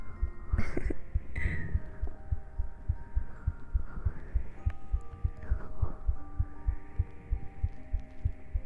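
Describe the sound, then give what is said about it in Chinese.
A fast, steady heartbeat thuds in low pulses, roughly two to three beats per second, with a soft humming, wavering tone drifting in the background. “只要依在你的旁边，我的心跳永远都要为你加速。”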